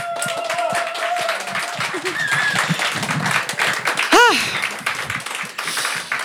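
A crowd applauds steadily for several seconds, dense clapping throughout, with a few cheers and a sliding whoop rising above it near the end.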